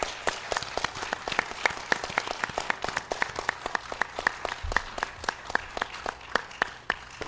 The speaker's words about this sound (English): And since she's also put this whole thing together, maybe we could give her a little round of applause. What do you think?